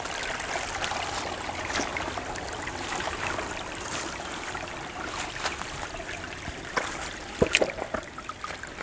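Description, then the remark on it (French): Gentle stream water laps and trickles steadily, a soft continuous babble with a few brighter splashes near the end, no voices. “Et le clapotis si agréable.”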